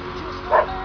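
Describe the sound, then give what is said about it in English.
A single short, clear dog bark rings out midway over a steady low background hum, with no other sounds around it. “Three barks.”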